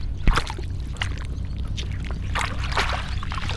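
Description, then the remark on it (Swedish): Wet splashing and dripping as seaweed growing on a stone is hauled up out of sea water, with irregular sloshes and trickles over a low, steady rumble. “Vi ska hiva upp en här alldeles strax.”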